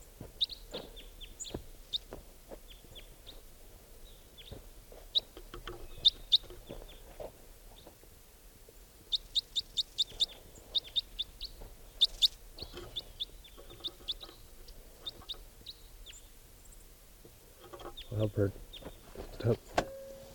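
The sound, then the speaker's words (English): Sharp, short calls of a single Type 4 red crossbill perched in a tree near a net, given in scattered bursts and quick clusters throughout, over low outdoor rumble and occasional rustling or handling noises. “Just a few minutes ago, a white-winged crossbill flew over, and now I think that one lone type 4 bird is back, and it's perched in a tree near the net.”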